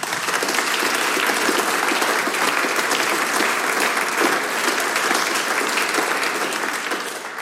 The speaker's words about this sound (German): Euer Applaus!